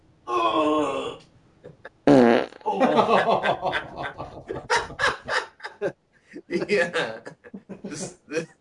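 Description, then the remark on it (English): A drawn-out, buzzy fart, about a second long, fairly loud at the start, followed by people talking and laughing. “Hey, here's a fart.”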